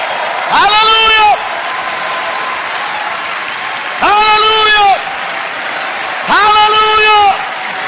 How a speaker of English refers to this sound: Will you give the Lord a round of applause and a shout?